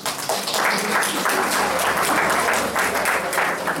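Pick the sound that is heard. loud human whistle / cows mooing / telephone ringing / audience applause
audience applause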